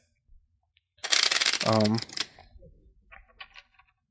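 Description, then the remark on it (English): A deck of cards being shuffled, a dense crackling riffle lasting about a second, with a brief voice sounding over it and softer handling clicks trailing after. “You're shuffling this?”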